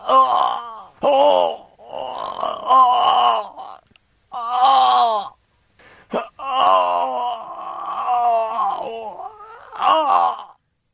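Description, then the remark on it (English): A sound effects CD track of a man groaning and moaning repeatedly in strained, drawn-out bursts, his voice rising and falling in pitch with short pauses between the loud, wavering sounds. “That was Groaning Man.”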